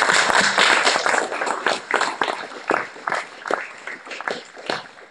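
A burst of applause from a small group: dense, overlapping claps at first that thin into scattered, separate claps as the clapping dies away.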